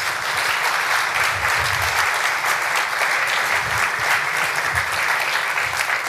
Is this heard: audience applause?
yes